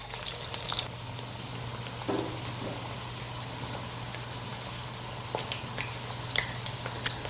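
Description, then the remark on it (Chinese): Southern ginger (nan jiang) sizzles softly in a pan as it is pan-fried until slightly charred, a steady low hiss scattered with small crackles and pops over a faint constant hum, with no voices. “那今天的姜呢，煎成差不多这个状态，好，它有一点点微焦，好，但是没有焦掉，好，这种状态我们就先把它拿起来”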